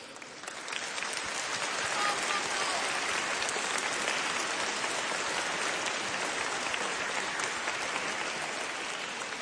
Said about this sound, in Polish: Jesteśmy w Łodzi, czyli teraz pozdrowimy oklaskami gorącymi wszystkich naszych przyjaciół z Łodzi, z całej Polski i z całego świata.